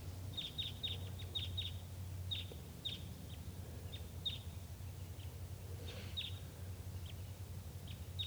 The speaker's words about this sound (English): At 9:22 a.m., wild birds coming in. Sounds like type 2.